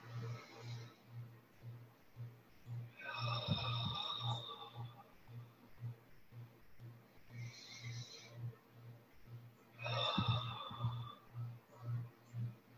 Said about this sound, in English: And let's take some nice breaths into your belly. It can be through your nose, through your mouth, whatever feels best for you.